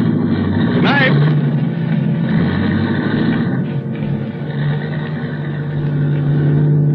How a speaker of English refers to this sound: I could hear his steps coming over to the car, and then getting in, and then we were starting off.